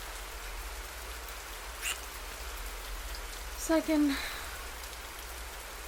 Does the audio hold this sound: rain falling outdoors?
yes